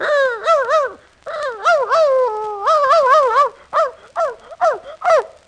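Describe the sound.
A man's voice imitates a dog, producing a loud run of yapping barks and whiny yelps in quick, uneven bursts with short pauses between them.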